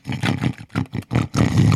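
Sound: person imitating a pig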